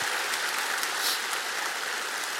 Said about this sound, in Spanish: Vamos a dar un aplauso.